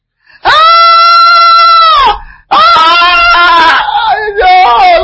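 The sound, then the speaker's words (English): A person lets out a long, loud anguished scream held steady for over a second, breaks off briefly, then screams again with a wavering, strained pitch that trails into cries. “And then verse screaming, especially when you have watched some horror movies, horror Christian movies, I call them.”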